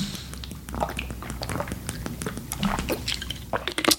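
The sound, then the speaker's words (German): Wet mouth sounds of someone taking a sip of water and swallowing, with small clicks, slurps and gulps scattered over a few seconds and no talking. “Sorry, ich trinke jetzt hier mal einen Schluck.”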